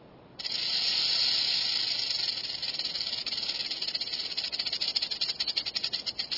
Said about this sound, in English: In one experiment, ground squirrels were nearly as alarmed by the burrowing owl's hiss as they were by the recording of a real rattlesnake, like this one.